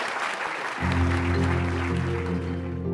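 An audience applauds at the end of a Stanford Entrepreneurial Thought Leader Series talk in a dense, steady wash of clapping, and less than a second in, sustained low-pitched music swells in underneath and continues with the applause to the end.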